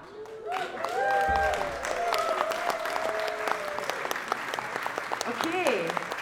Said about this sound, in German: Großen Applaus für den riesigen Chor!